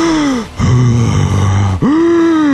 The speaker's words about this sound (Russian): Просто глубоко дышите.